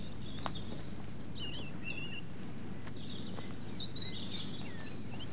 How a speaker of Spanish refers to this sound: Y esta es la versión del mirlo común.